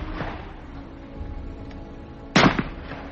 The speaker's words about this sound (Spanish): Robert en ese momento cogió su fusil y le disparó un par de tiros entre los omóplatos